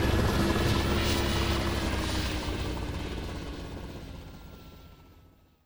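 A helicopter roars with dense, steady rotor and engine noise, loud at first and then fading gradually as it moves away, leaving near silence at the end.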